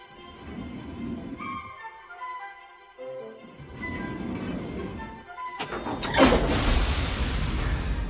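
Metallic whirring and clanking as the spinning steel handles of a security safe whirl round, then the heavy door swings open with a loud, sustained rushing hiss, in the film Richie Rich. No one speaks.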